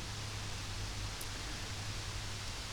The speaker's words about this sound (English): It's starting to rain again. I'm getting dripped on.